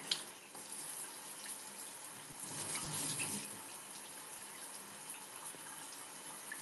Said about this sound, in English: Unless you just want to sit here and listen to me shower.